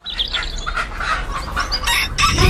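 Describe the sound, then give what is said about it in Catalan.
A Penedès rooster crows loudly, its strained, harmonic calls repeating in quick bursts, with clucking hens filling the background throughout. “Els dies 15 i 16 de desembre, descobreix el Gall del Penedès.”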